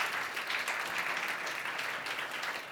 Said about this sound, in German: Mega, mega gut. Nochmal herzlichen Applaus.